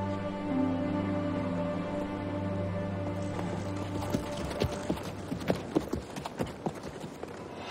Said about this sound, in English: as they mount their horses and ride off into the night.